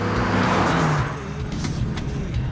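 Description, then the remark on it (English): A vintage car's engine drones steadily on the road, with rumbling low tones and road noise, briefly louder at the start before settling into a continuous cruising hum. “His vintage car.”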